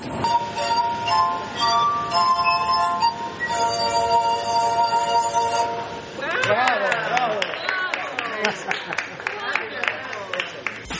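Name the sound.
glass harp being played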